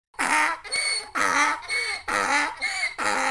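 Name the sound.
donkey braying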